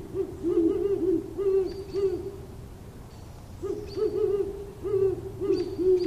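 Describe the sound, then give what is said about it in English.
Deep, booming hoots from a pair of birds, a female and a male, trade back and forth in two rhythmic bouts of quick, wavering calls just before dawn, the female's boom deeper than the male's, loud and low-pitched over a faint background hum, with no talking. “They can be heard easily from a couple miles away, their deep booming resonating and echoing as the sound waves travel further from the pair.”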